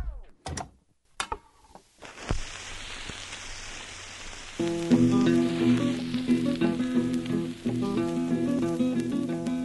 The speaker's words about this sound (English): Remember what it was like to put on a record? The pop and skip, the scratch and hiss. Some people love that sound, like novelist Hari Kunzru.